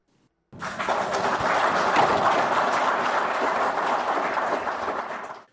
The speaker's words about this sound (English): Those are Zimbabwean officials, including Wildlife and Environment Minister Opambu Chinguri, clapping after they received anti-poaching equipment